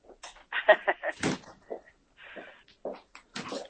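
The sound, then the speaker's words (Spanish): A door swings shut with a single solid thud partway through, surrounded by muffled speech and some rustling. “Esperar un momento, que cierro la puerta.”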